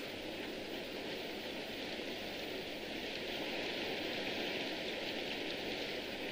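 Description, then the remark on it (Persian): Steady rain falls continuously, a dense even hiss of drops at moderate loudness with no pauses, no voices over it. “هایدی، پیتر حتماً توی بارون گم شدن.”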